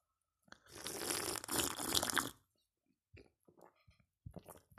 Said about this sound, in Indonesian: Karena salah satu elemen yang harus ada ketika Buruh Desain Grafis Podcast adalah Teh Tarik. Oke. Jadi sambil nyeruput, teman-teman.